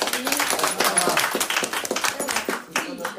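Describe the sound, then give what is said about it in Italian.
A group applauds steadily for a few seconds, a dense patter of many hands clapping at once, fairly loud, with voices mixed in underneath. “Facciamo un applauso”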